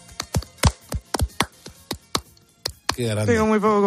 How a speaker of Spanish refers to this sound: ¿Cómo suenan las palmas de una sevillana en este estudio de la radio? No, tengo muy poco compás, ¿eh? Bueno, soy de poco compás. Yo te acompaño, venga.